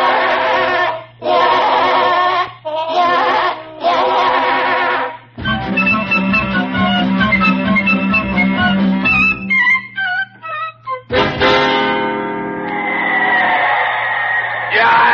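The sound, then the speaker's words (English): A loud, dense stadium crowd yells and bellows in bursts, with overlapping voices, shrill whoops and whistles rising out of the din before a final surge of roaring. “The crowd is yelling so loud here at the stadium, I just can't hear a word that you're saying.”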